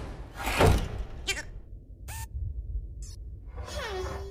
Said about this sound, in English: Wally and Eve fly into the airlock, whose doors close behind them. Bernie bangs on the doors.